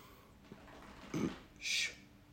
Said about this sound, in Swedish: Min hund.